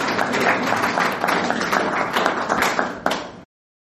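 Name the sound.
audience applause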